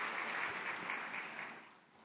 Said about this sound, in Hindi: तालियों से स्वागत करेंगे।